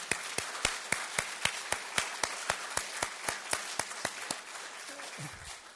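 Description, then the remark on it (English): An audience applauds steadily, a dense wash of clapping with a strong, regular beat running through it for several seconds before tapering off at the end. “Go ahead, clap.”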